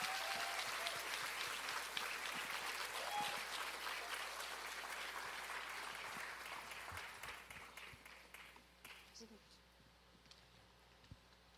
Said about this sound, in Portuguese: Vamos aplaudir o Senhor pela vida deles, amém?